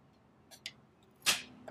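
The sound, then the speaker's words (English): A door cracks sharply: a few faint ticks, then one louder, bright snap that fades quickly, followed by a last small click. No voices are heard. “Yeah, I think I was just the door shit, this shit cracking, bro.”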